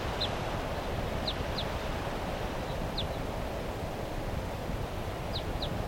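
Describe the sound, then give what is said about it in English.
A wild bird calls from the treetops of a tall fir tree just above a car, with brief, high chirps, sometimes in quick pairs, spaced irregularly and fairly faint above a steady rush of wind and rustling leaves. “That bird 377, I think, is still here calling from the treetops just above the car.”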